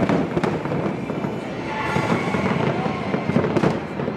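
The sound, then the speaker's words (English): Fireworks crackle and boom in a steady barrage at Independence Day celebrations, sharp bursts popping over a dense, rumbling wash of noise, loud with no pauses. “On this side of the ocean, Independence Day celebrations rang from coast to coast.”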